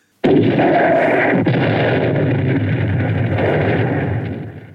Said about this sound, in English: A shell banged into the yard of the factory across the road. Planks and pieces of timber whirled in the air, clapping down on the stones.